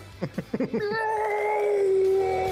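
A quick series of soft thumps on the ground gives way to a long, drawn-out meow from a neighborhood cat, loud, its tone wavering slightly as it stretches on.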